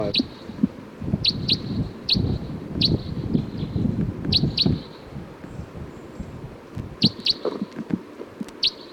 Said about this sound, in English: Bird 305. I think there's a wild bird here. Bird 305. Sounds like there was a wild crossbill down the hill.